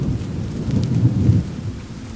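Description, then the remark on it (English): A thunderstorm: steady rain hisses throughout while a deep, loud rumble of thunder rolls and swells in the middle before easing off. No one speaks. “There is a steady rain overhead and deafening thunder.”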